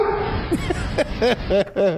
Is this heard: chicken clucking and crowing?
no